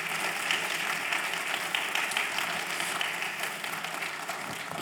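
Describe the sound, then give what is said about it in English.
A crowd applauds steadily, a dense wash of many hands clapping at once, sustained and fairly loud for the whole stretch with no pauses or talking. “Let's give one more round of applause.”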